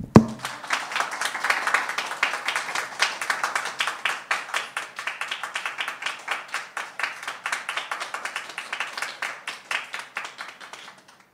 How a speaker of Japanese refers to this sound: それでは御臨在の聖霊様に感謝を持って拍手を持って主を褒めたたえてまいりましょう。ハレルヤ。